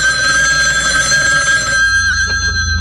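A telephone rings loudly and continuously with a bright, steady electronic bell tone, alone with no voices, the ringing tone shifting slightly near the end.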